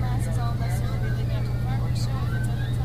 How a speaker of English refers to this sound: Please remain behind the yellow line while the bus is in motion.